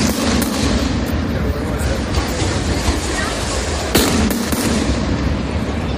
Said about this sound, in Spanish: Bueno, así comenzaba vuestra Mascletà de ayer, con esos petardos que se iban disparando con unos segundos, ¿no?, entre uno y otro. Entiendo que se comienza así para que luego vaya creciendo esa intensidad de la que nos hablabas.